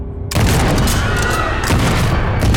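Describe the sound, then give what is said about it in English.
A loud rifle gunshot, fired by Ben inside a building as he shoots a man in the back, bursts in after a brief quiet moment, followed by a dense, sustained roar of gunfire with rapid cracks layered throughout. No one speaks. “Rifle ready, Ben lopes in the front door, slamming it shut behind him, then shoots a man in the back.”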